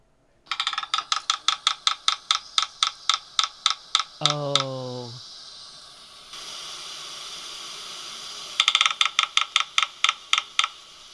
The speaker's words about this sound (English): We definitely want to listen to the red-breasted sapsucker. Because we pointed out the difficulty of distinguishing the drumming of those three woodpeckers we already discussed, but listen to this.